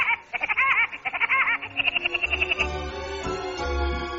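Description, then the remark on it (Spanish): Theme music of the cartoon El Pájaro Loco (Woody Woodpecker): quick bursts of high, staccato cackling notes in a bouncy rhythm, then a held lower tone over deep, pulsing bass notes. No one speaks. “Esa es la música del pájaro loco.”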